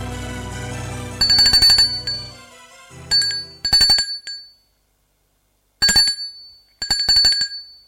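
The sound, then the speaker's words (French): A doorbell at a woman's door, rung by two uniformed police officers, sounds in about four short, bright, rattling bursts separated by pauses, loud, after a low humming musical background fades away. “Sonne à sa porte.”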